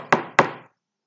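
Two sharp knocks on a wooden door, evenly spaced, each with a short resonant ring that fades quickly into silence.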